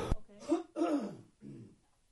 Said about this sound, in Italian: Pardon, un attimo di tosse.